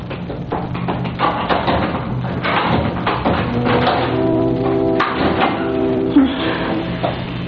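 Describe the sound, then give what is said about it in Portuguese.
A door creaks open with a drawn-out groaning squeal, mixed with a few knocks and thumps of the wood, over a dense, rumbling background. “Responda, senão não abro. Abra a porta.”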